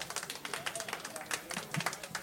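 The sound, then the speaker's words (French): An audience at a 200th evening show applauds a poet coming on stage, many hands clapping in a dense, steady patter that continues throughout, with no voices standing out. “On applaudit le poète!”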